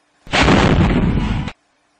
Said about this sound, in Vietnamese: Một trái quả tiễn rớt bên lề sân bay gần hai chiếc phi cơ trang bị đầy bom đạn. Ánh lửa nháng lên làm cho Phúc lóa mắt. Rồi một tiếng nổ bật tung đất đá phá vỡ bầu không khí làm chấn động lồng ngực.